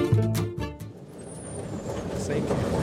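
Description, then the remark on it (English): A bus engine rumbles as the vehicle slows and stops to drop passengers off at a house, a thin brake squeal rising briefly over the steady low drone, with muffled voices in the background. “Thanks, bus driver, for dropping us off at my house.”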